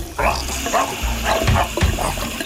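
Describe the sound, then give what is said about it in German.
A dog wearing rubber gloves on its paws gives a series of short barks or yelps, roughly every half second, over the steady rush of running water from a kitchen tap as dishes are washed, with a few sharp clinks mixed in. “Der Hund will nur spülen.”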